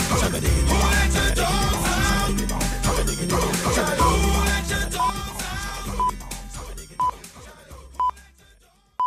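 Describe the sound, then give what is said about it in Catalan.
A loud pop chorus packed with dog-like barks and howls over a pounding beat, then the music fades out under a series of short, evenly spaced electronic beeps. “El cor està construït completament al voltant de gent que ja ho esteu escoltant, Borda i Udola.”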